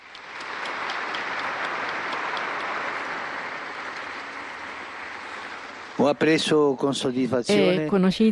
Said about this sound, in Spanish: Eran jóvenes, no tenían ni 35 años. Un aplauso a los nuevos beatos.